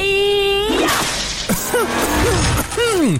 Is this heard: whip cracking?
yes